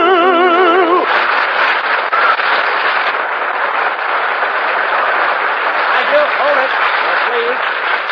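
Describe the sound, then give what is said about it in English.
A large crowd breaks into loud, steady applause lasting several seconds, with a brief wavering voice right before it starts and a few faint shouts mixed into the clapping. “Now, please. No applause.”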